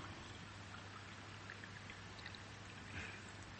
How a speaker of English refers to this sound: Now, can you lift high enough? Can you pour from this? Imagine that this is actually more like a tap, like a bottomless source rather than a jug, if that's okay. Right. Now, if you pour into this glass, and we'll see what happens.